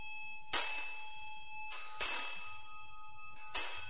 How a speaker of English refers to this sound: Most of the time you need to ring the bell this way.